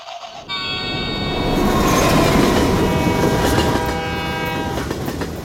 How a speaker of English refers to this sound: Well, in that case, we have to go the slow train. You want to go the slow train and see what we can see?